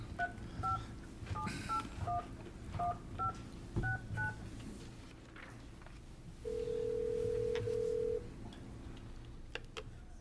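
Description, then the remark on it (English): A rapid series of about a dozen telephone keypad beeps as a number is dialed to call Brady Trucking during a meeting, followed by a pause and a single long ringing tone, all over a low steady background hum. “Oh, we need to get Mr. Roop on the phone.”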